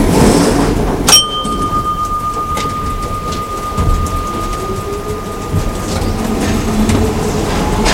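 metro train

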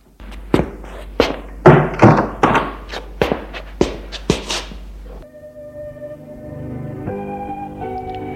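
door being closed

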